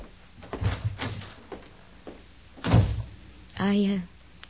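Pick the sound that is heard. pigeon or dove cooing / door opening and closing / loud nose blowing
door opening and closing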